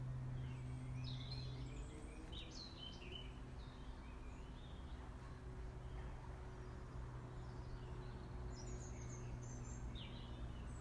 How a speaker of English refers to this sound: I think you can hear the blackbird. You might be able to. It's very early to hear them.